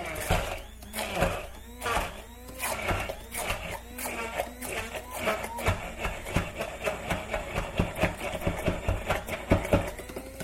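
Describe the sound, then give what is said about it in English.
A food processor whirs while ice and one mango are crushed and mixed for a drink, its motor humming under rapid, irregular cracking and rattling bursts that continue throughout without any talking. “And then I take the processor again, and then I crush and mix the mango together with the ice.”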